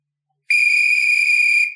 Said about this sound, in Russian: Ой, это жираф. На голове у него милицейская фуражка, на шее на цепочке свисток.